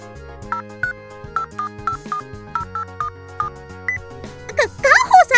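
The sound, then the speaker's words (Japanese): A string of short, evenly spaced phone keypad beeps as someone places a call on hands-free during a show, followed by a brighter burst of ringing tones, all over a low steady musical hum. “本番中に電話しちゃダメですよ。”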